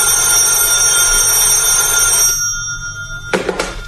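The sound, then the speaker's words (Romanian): A telephone bell rings loudly and steadily for about two seconds, then fades out, followed by a short clattering knock like a receiver being picked up. “Coniță, răspunde la telefon.”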